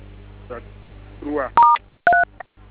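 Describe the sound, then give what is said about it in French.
Two short bursts of phone keypad tones dialing a USSD code, each a bright dual-pitched beep, loud, following soft speech, with a quieter click-like blip after. “vous menez étoile 4 étoile 100. Étoile 100. Étoile 3 dièse OK.”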